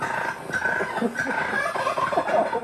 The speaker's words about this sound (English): Maybe you remember the viral moment from March when turkeys interrupted a traffic stop in the Cleveland suburb of Bay Village.